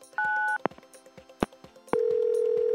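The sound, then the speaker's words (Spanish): A telephone keypad beeps with a dual-tone press as a random phone number is dialed for a prank call, followed by a few sharp clicks and then a steady, continuous dial tone, all clear with no talking. “Producción, marcado un teléfono al azar.”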